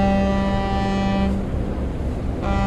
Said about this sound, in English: This is a ferry boat crossing the Bosphorus from Asia to Europe.